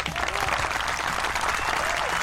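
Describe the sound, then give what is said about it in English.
A crowd applauds steadily throughout as the host of a radio show is welcomed, a dense wash of many hands clapping at once, fairly loud, with no one speaking over it. “Okay, it's enough clapping.”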